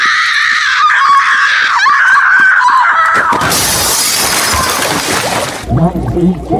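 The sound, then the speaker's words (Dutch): A girl lets out one long, sustained high scream lasting several seconds, cut off by a loud, noisy splash as she plunges into a pool, followed by brief muffled sounds. “En ook dat andere meisje dan op een gegeven moment zo eindeloos blijft schreeuwen. En die zo in één lange schreeuw dat zwembad in kwakt.”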